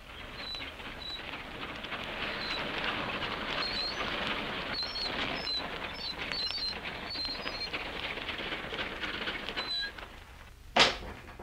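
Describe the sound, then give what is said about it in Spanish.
Small birds chirp and twitter in short, scattered calls over a steady outdoor hush in a sunny park among trees, fairly faint, with one sharp brief noise near the end. “Aquí, bajo este sol, en medio de estos árboles, de estos pájaros”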